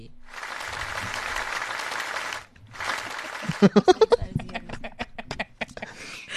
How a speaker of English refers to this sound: And because one round of applause is not good enough, yeah, I mean, we had this just for you,